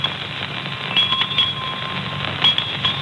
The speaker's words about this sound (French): Et tous les bruits de la vie peuvent être transformés en V. Voici le facteur qui sonne à la porte.